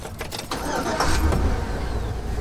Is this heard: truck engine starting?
yes